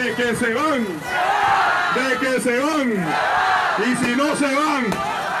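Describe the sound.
A loud outdoor protest crowd shouts in unison, answering a student leader's call of "They must go" with "Go" in a repeated call-and-response pattern, with strained voices rising and falling across several bursts, at a march demanding the removal of President Daniel Ortega.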